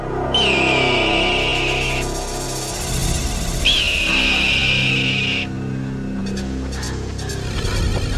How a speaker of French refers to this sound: Puis là, quand ils arrivent, on voit l'église, tout ça, il y a comme un cri d'aigle.